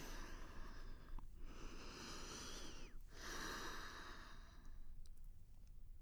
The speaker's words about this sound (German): Atmen.